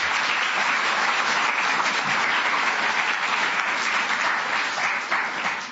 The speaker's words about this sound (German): Kleiner Applaus für Daniel.